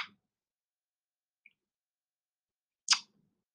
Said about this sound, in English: Ask guests to join. But I'm clicking on that. It's doing nothing.